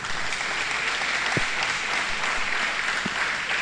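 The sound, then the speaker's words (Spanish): An audience applauds steadily to thank a speaker, a dense, even patter of many hands clapping at a constant loudness for the whole stretch, with no voices breaking through. “Bueno, le damos las gracias con un aplauso.”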